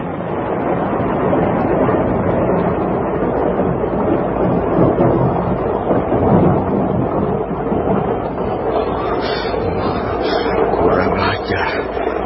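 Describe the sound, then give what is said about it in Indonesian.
A strong wind roars steadily alongside heavy, continuous rain, a loud, dense wash of noise that holds for the whole stretch with no voices. “Tiba-tiba angin bertiup kencang, mendung tebal bergulung-gulung datang. Rakuti tidak peduli, dia terus berlutut. Dan sebentar kemudian, hujan pun membasuh permukaan bumi.”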